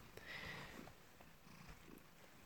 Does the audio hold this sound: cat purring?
yes